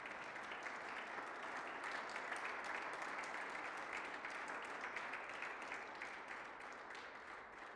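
audience applause

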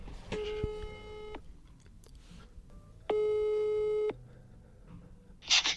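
telephone call tone

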